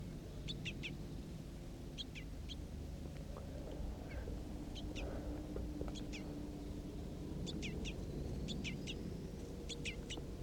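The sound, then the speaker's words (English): Crossbill calls recorded around 9 a.m.: sharp, high chip notes in quick clusters of two or three, repeating every second or so, over a steady low rumbling background with no talking. “So recording the crossbills again, it's just about 9 o'clock a.m.”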